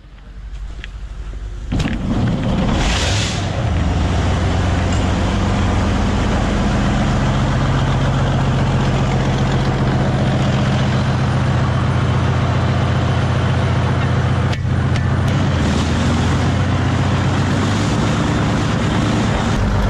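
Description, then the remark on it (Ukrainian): A heavy self-propelled gun engine idles loudly on the Bakhmut front, a steady deep rumble with a throbbing low drone, broken by a couple of sharp clanks, and no voices over it. “Машина, мощная машина.”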